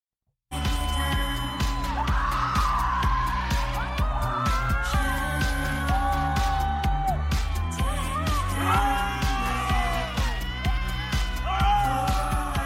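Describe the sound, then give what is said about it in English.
A group of adults scream together outdoors into a dormant volcano on the full moon, releasing their deepest limiting beliefs, a loud, sustained chorus of overlapping voices with rising and falling wails that runs without a break for over ten seconds. “we are about to watch a group of, how do you describe them? Individuals that are you can open it. Can you open it? Mm-hmm. Oh, you got to play it. That are screaming into a volcano.”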